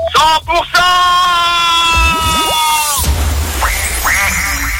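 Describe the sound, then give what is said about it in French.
A duck quacks loudly as part of a contest game on 100% Radio: a couple of sharp opening quacks, then a long drawn-out nasal quack, followed by several shorter rising quacks over a busy background. “Mais j'entends un canard”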